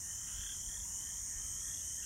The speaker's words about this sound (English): You hear birds calling. You hear frogs and nearby ponds.